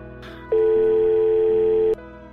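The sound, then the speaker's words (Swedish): A single loud, steady ringback tone of an outgoing telephone call, a plain mid-pitched beep lasting about a second and a half, with a faint low hum before and after. “Ja, nu ringer jag igen, ja.”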